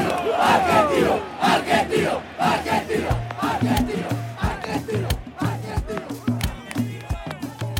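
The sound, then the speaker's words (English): A big stadium crowd at an Argentino Juniors football match roars and cheers wildly as the players come out one by one onto the field from the chest of a giant Maradona figure, a dense, loud wall of shouting voices that swells and surges, with rhythmic chant-like bursts and a steady low hum beneath. “One by one, the players pop out of his chest cavity onto the field, and now the crowd really goes nuts.”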